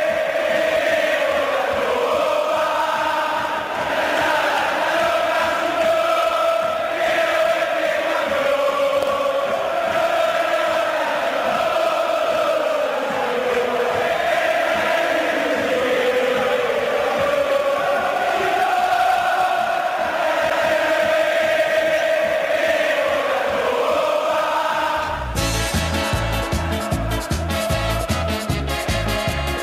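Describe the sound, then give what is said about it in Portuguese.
San Lorenzo (Ciclón) football fans in a stadium chant the traditional 'Queremos la Copa' in unison during the 2014 campaign, loud and sustained with a reverberant stadium roar, before cutting off abruptly to a different rhythmic sound in the final seconds. “O tradicional Queremos la Copa, na adaptação feita pela torcida do Ciclón da música”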